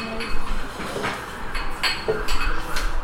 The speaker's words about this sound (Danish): Vi står i en mælkebar i Polen. Lyden af tallerkener, glas og bestik omringer os. Atmosfæren er hektisk.